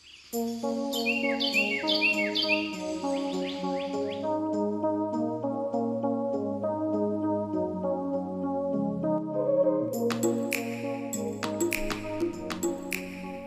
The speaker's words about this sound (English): dozens of bird sounds are preserved with Ward's audio for the next bird survey 100 years from now